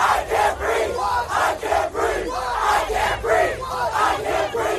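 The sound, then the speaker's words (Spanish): A large crowd of protesters in the United States chants "I can't breathe" in unison, many voices shouting the phrase over and over in a steady, loud rhythm with no break. “Este hombre falleció en el hospital, pero ese "I can't breathe" se ha convertido en el grito de los manifestantes.”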